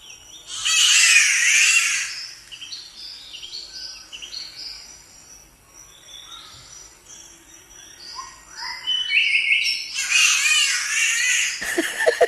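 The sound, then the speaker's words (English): A spotted catbird in Australia gives two loud, harsh, cat-like yowling wails, one at the start and one near the end, with softer chirps and twittering from other birds in between. “One of your favourite recordings in Australia has been of the spotted catbird.”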